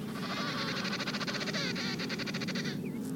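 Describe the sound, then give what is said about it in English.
A mother penguin on the ice calls and the father penguin answers with his own call: loud, warbling, bleat-like trumpeting with rapid pulsing, running for almost three seconds before stopping, with no talking. “So every so often, she stops and calls. Her cry is unique, and the father responds with a call of his own.”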